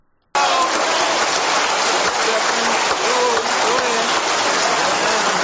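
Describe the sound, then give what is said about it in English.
A large crowd at a speech cheers and roars in a loud, steady wash of noise that starts abruptly and carries on unbroken for several seconds, with scattered voices blurred into the din. “And listen to the crowd. They're loving it.”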